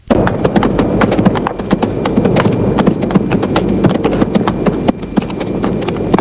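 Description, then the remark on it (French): Horse hooves clip-clop steadily in a courtyard as a rider arrives on horseback, a quick, even rhythm of sharp knocks that carries on for several seconds over a low background rumble. “Il descend de cheval.”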